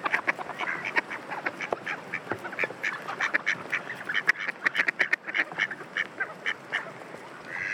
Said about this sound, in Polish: Głos to oczywiście kwakanie. Może to być taki jakby śmiech z góry na dół. Lub po prostu takie ciągłe kwakanie. Podczas żerowania, podczas kąpieli.